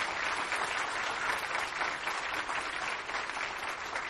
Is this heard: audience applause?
yes